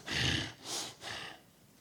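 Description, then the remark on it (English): Three hard, forceful panting breaths in quick succession, fairly loud, each a rough noisy huff, then quiet. A person imitates angry, heavy breathing to illustrate a spirit panting with fierce anger. “Panting with anger. Spirit in heat. Breathing in a passionate anger. Quickly breathing hard.”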